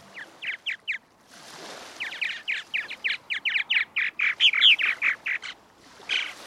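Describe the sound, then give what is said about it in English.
Purple Martin calls: a rapid series of rich, gurgling chirps and croaks, repeated in quick bursts, clear with no talking. “2005 could be called the year that Purple Martins returned to the San Juan Islands.”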